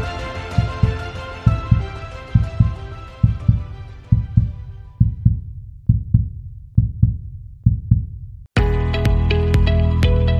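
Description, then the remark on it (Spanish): A heartbeat sound effect standing for the heartbeat of the earth in the cenote caverns of Xibalbá, the Maya underworld: deep, steady lub-dub thumps repeating about once a second beneath a fading ambient drone, then abruptly replaced by a loud, dense wash of sound. “Adéntrate en estas cavernas al reino de Xibalbá, el inframundo maya, y escucharás el latido del corazón de la tierra.”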